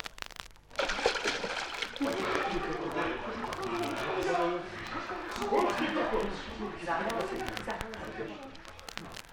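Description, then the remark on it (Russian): Steady, busy splashing and sloshing as servants plunge into the water and thrash about at once, with excited voices shouting and chattering over the noise throughout. “Слушаюсь, ваше королевское высочество, слуги, вперед, в воду.”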